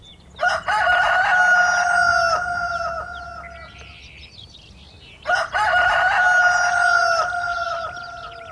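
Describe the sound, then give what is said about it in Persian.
A rooster, feathers spread and head raised, crows loudly twice, each crow a long, strained cock-a-doodle-doo, with a short pause between them and no voices present. “خروس پرهایش را باز کرد، سرش را بالا گرفت و با صدای بلند، با بلندترین صداها آواز خواند.”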